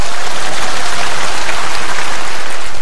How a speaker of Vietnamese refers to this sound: Cái quá trình đó gọi là giỏi quá, cho một tràng pháo tay.